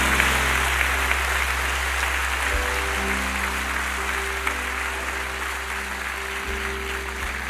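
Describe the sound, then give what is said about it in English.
An audience claps steadily in worship to God, dense overlapping applause filling the room at a constant level, with a low sustained hum underneath and no voices standing out. “We clap our hands right now because you're worthy of it.”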